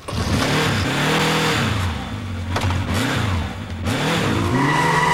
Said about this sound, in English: As Pike roars off on his bike, Benny the vampire emerges from a nearby photo booth.